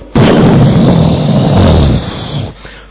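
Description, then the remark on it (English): A loud clap of thunder from a big thunderstorm breaks in suddenly and rolls as a deep, heavy rumble for about two seconds before fading away. No one speaks. “So they finished the ceremony and there was a big thunderstorm.”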